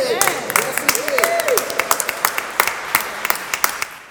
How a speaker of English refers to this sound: Now, y'all can do a little better with that clapping because Jesus rose from the dead.